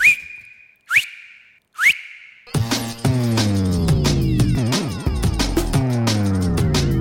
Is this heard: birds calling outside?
no